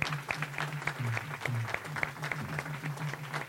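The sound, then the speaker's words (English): An audience applauds steadily for a group who stand up to be recognized for what they did, many hands clapping in a dense, continuous patter with a low hum running beneath it. “Stand up so we can give them applause for what they did.”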